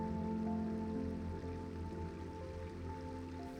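A clear brook fed by melting winter snow bubbles and trickles steadily, a soft continuous wash of running water layered with low sustained musical tones, with no voices.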